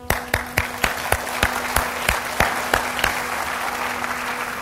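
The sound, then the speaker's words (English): A crowd applauds during a Boeing presentation. Sharp, regular claps stand out at first, then soften into a steadier wash of clapping. A low, constant hum runs underneath, and no one speaks. “Anyway, here's a round of applause for you.”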